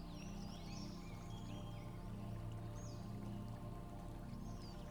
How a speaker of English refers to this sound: You sit beside it, watching the water dance over the rocks. The bubbling brook seems to whisper, "Let all tension flow away."